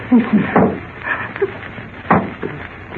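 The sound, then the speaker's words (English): A few sparse, irregular taps on a wooden door, hollow and moderately loud, separated by long pauses in otherwise quiet surroundings. “He wouldn't tap like that.”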